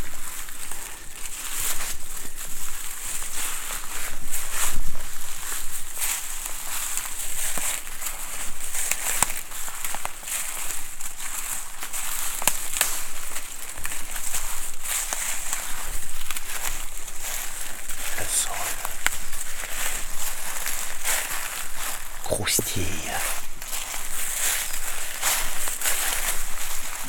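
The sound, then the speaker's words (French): Steady footsteps descending through a forest crunch and rustle through a layer, several to about ten centimetres thick, of dead leaves and dry wood, a continuous crackling shuffle with irregular sharper snaps, moderately loud, with no speech. “À mes pieds, un tapis de quelques centimètres, voire une dizaine de centimètres de feuilles mortes et de bois sec.”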